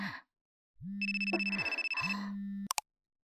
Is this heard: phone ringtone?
yes